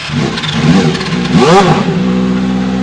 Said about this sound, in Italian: Il motore fa molto rumore, ma si spegne subito.